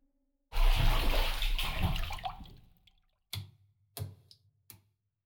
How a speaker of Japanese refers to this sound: さてと、準備ができました。ご主人様、お湯から上がって、こちらへどうぞ。